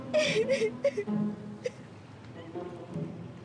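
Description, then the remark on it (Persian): A person sobs, with a cluster of sharp, hiccuping gasps and whimpers in the first second or so, then softer, wavering cries trailing off. “بابا چی گریه میکنی؟”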